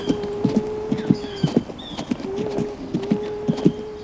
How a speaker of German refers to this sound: Ja, also wir sind verkehrt rum auf ein Pferd gestiegen. Wir reiten schon seit Stunden rückwärts.